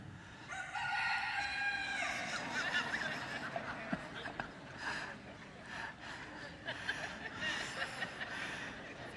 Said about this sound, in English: And that rooster let out a cock-a-doodle-doo to end all cock-a-doodle-doos. And it's almost like I can still hear that right now.